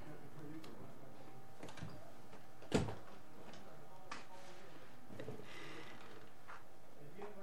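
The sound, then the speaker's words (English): A door at a community radio station in Fairfield, Iowa, is shut against noise outside, with a single sharp thud partway through, standing out above a steady wash of background noise and faint clatter. “Let me close this door.”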